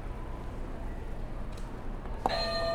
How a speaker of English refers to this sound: You can hit another buzzer.